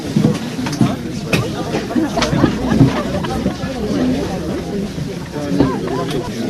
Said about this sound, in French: Un matin de février, la foule des skieurs prêts à grimper dans le téléphérique de l'Aiguille du Midi. C'est le point de départ pour s'approcher du Mont Blanc ou dévaler la mythique Vallée Blanche.